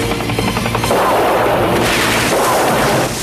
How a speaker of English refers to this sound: The chopper gunner fires.